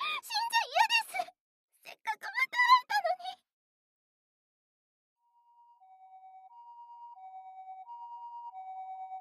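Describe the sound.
A voice speaks briefly, then after a pause an ambulance siren fades in, its two alternating tones growing steadily louder as it approaches.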